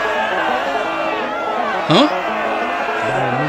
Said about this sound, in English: Oh yes, I think I heard the right answer out there, amongst the crowd of voices.